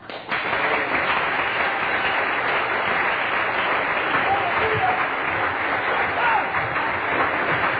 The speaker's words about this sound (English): For instance, Psalms 47 and 1 said, Oh, clap your hands, all ye people, shout unto God with the voice of triumph. Let's do it right now.